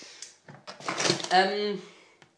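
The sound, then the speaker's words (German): Food is shuffled into a freezer compartment with a series of rattling clunks, then the compartment door thuds shut; a brief voiced murmur rises partway through. “Ich rede und dann fällt mir wieder ein, dass ich hier dies und das in die Kühltruhe wieder tun sollte.”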